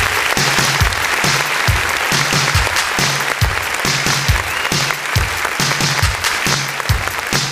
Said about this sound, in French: Bravo, applaudissements pour DJ Flo.